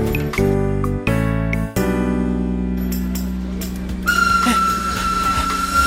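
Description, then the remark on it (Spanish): A train pulls out with a heavy low rumble while loud, sustained whistle tones blow in several bursts, a higher steady pitch joining toward the end. “Ahora solo tengo que agarrar el ferrocarril. Ese que está saliendo.”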